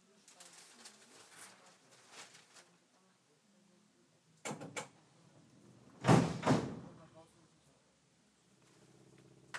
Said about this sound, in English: They would sound very fierce, those doors. You wouldn't want to be in the way. I don't think they're like the normal automatic doors. They just makes it, you want some kind of compressed air thing.